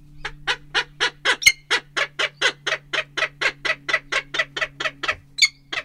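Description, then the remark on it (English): Sibley, a 12-year-old female non-releasable peregrine falcon living in an enclosure on the Bitterroot River, gives a long run of harsh, rhythmic cacks, about twenty evenly spaced calls with a steady beat and no talking, plus a faint low hum underneath. “She's our 12-year-old peregrine.”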